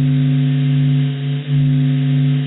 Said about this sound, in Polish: To nie zakłócenia. To wibracje słońca.